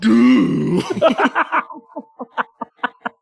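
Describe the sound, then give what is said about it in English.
A voice imitates a trombone, starting with a loud, buzzy held note that slides upward, then breaking into about a dozen short, punchy toots that fall in pitch and fade, with no words spoken. “Here, hold up. I'll trombone it.”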